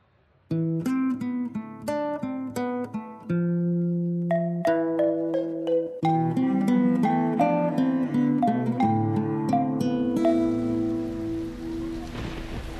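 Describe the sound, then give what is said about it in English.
A tuneful passage of sustained musical notes plays, then a steady hiss of falling rain sets in near the end, continuing under a lingering tone for the last few seconds. “I don't know why the buses seem to stop running whenever it rains.”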